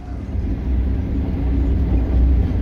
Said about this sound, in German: Der Zug fährt weiter zum 200 Kilometer entfernten Issyk-Kul-See.